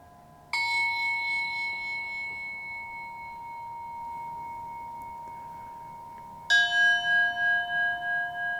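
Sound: gong struck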